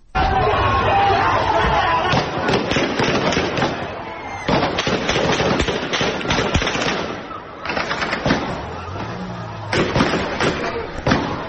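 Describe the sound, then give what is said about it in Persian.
Dense, rapid bursts of gunfire crackle continuously over a loud, agitated crowd, with sharp bangs repeating in clusters and shouting voices throughout, during street clashes with protesters in Paveh, a Kurdish city in Iran. “از جمله در پاوه که در ویدیوهای منتشر شده از پاوه درگیری ها و صدای تیراندازی در اون بسیار گسترده و مشهود هست.”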